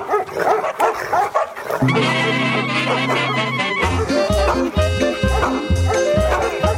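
Rhythmic dog barks and yips punctuate a loud, busy music track, with sustained tones and a heavy thumping bass beat that kicks in partway through.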